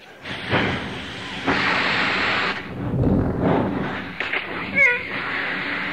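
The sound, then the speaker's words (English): Rough bursts of loud, breathy hissing, like a big steam locomotive with a steam whistle venting steam, apparently voiced by a person imitating it, with a brief whistle-like squeal near the end. “Going to take a train, a big locomotive, the one with the steam whistle.”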